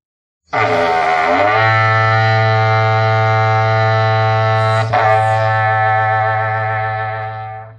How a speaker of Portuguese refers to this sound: O som do berrante galopando no lombo do vento faz com que o boi preste atenção no chamado e responde: mu, mu, mu, mu. Ouçam, ouçam quantos berrantes soando, quantos bois respondendo.